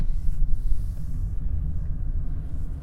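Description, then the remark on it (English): A steady, low engine rumble fills the space, like riding inside a moving car, with constant road drone and no voices. “I'm back in the car.”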